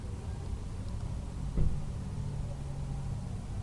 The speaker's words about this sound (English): It looks like those two cars have two people in them. My, there are so many of them. I wonder where they're going. It's Sunday, though, so they're probably doing something for church. Interesting. Holy cow, there's like 40 cars.